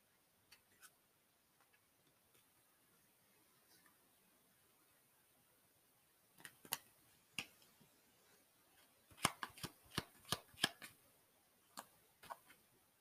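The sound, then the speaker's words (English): A tarot card deck being shuffled, heard as quiet, sharp papery clicks and snaps that come in irregular bursts, busiest in the second half, with no one talking. “Or not, just to shuffle on camera, not pre-shuffle.”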